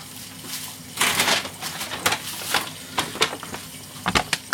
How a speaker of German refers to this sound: Dann stelle ich euch eine Rascheltüte daneben.